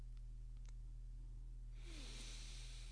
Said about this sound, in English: Deep breath. That's why I feel like it's time for a deep breath.